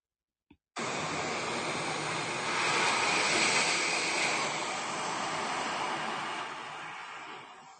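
Ocean waves roll in as a steady, hissing wash of surf that starts abruptly after a short click, swells midway, then slowly eases off, used for a short mindfulness meditation set in the sea. No voices are heard.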